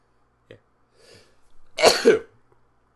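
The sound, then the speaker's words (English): A single loud sneeze bursts out in two quick, harsh parts after a soft intake of breath, with near silence around it and no talking. “Believe it or not, the sneezing started before I even got here.”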